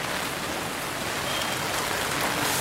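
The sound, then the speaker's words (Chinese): Steady heavy rain pours down in a continuous, dense hiss with scattered drops pattering on surfaces, loud and unbroken throughout with no voices; rain falling in a small alley near the speaker's home on a cold day. “那今天现在在下雨，所以我现在带你们去看一下我家附近的小巷子，走吧。”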